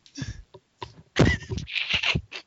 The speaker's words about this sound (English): Where'd that cat come from?